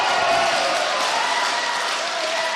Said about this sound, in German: Mitte März waren der Jubel und die Glückwünsche von Christin Brinkers Anhängern kaum vorbei